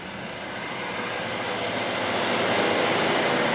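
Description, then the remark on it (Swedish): A steady, broad roar of a helicopter passing overhead, flying in and out of clouds while trying to approach a mountain and glacier near Lom in windy, grey, snowy weather, swelling gradually louder across the few seconds with no voices present. “Han ser helikoptern flyga in och ut ur molnen i et forsøk at nærme seg fjellet og glasjæren.”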